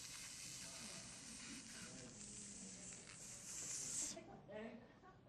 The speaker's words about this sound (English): And there is this mysterious leak of steam coming out of my motor someplace.